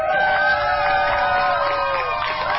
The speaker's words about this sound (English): Sounds of cheers as a gay pride rainbow flag gets raised over the Wisconsin state capitol for the very first time as part of LGBTQ month.